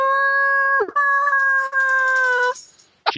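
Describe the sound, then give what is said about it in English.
A dog locked out of the house howls loudly: a long, steady, high-pitched wail that breaks briefly, then carries on before fading out, followed by a short noise at the end. “this week we recorded at my place, and we had to lock the dog out, so you can hear through the whole episode this...”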